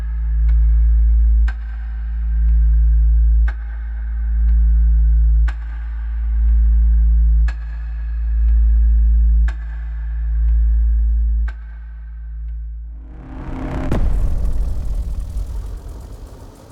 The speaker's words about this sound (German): Wie hört sich das für Sie an, verehrte Zuhörerinnen und Zuhörer? Es ist nicht das Geräusch kochenden Wassers. Es ist der Klang der zellulären Auflösung.